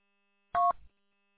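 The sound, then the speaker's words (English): A single short touch-tone beep, a steady dual-pitched DTMF telephone keypad tone sent over a repeater-to-repeater phone link, cuts in and is followed by a brief burst of rough, low noise before the line falls quiet. No one speaks. “Hey, what does repeater phone to repeater phone sound like?”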